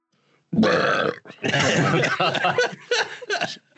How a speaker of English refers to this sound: All right, that's our introductory burp to the film with three brains. The film with three burps.